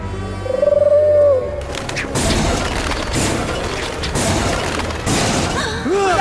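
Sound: pigeons cooing and flapping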